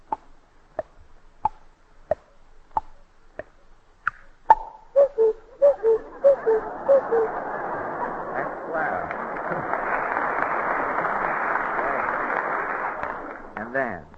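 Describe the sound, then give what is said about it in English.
A voice imitates a cuckoo clock using only the mouth: steady mouth clicks tick about seven times, then a quick run of hooting cuckoo notes, followed by a long burst of audience applause. “The next is the cuckoo clock.”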